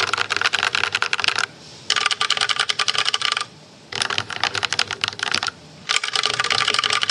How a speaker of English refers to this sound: As you can tell, a noticeable difference due to that pour-on foam that sits within the keyboard itself. So what did I think? So as you can tell, this keyboard has a definite different sound compared to other types of keyboards.